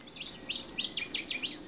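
A dense chorus of migratory bird calls and chirps at a summer breeding ground in Alaska, overlapping continuously, several birds singing at once over a soft background hiss, with no voices; a recording from Bernie Krause's archive.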